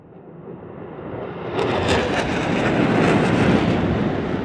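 A loud airplane bearing an Italian tricolour roundel roars toward a school, heading straight for it, its broad engine rumble swelling steadily and growing louder and brighter over a few seconds, with no voices present.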